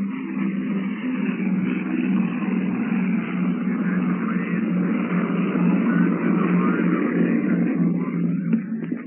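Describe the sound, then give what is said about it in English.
A four-engine C-54 propeller airliner, the Globster, roars steadily through takeoff on the first leg of a globe-circling flight, its deep droning rumble holding loud and constant for several seconds before cutting off abruptly. “The Globster has taxied to the end of the runway, cleared with the tower, and here it comes, thundering into the sky on the first leg of this globe-circling flight.”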